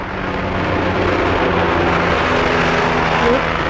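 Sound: highway traffic passing by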